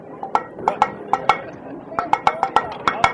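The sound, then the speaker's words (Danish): The second of three international rescue knocking signals: about a dozen sharp, bright metallic raps tapped out in uneven clusters, each hit ringing briefly with a clinking edge over a low background rumble. “Og det andet bankesignal,”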